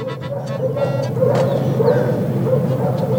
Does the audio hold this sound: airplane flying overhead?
no